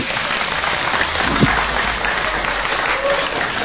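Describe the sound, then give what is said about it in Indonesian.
A crowd in the lobby of Ardan Radio applauds at a Nightmare Side Interaksi evening event with Danur 3, a dense wash of many hands clapping at an even, fairly loud level throughout, with no voices standing out. “Dan di dalam sini udah banyak banget teman-teman, boleh minta tepuk tangannya dong.”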